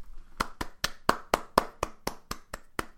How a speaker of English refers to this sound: I'm clapping for him.